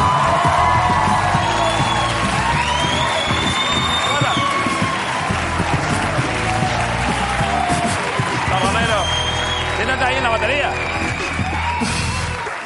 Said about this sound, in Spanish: Pero es que ahora viene Berto Romero. Un aplauso para él.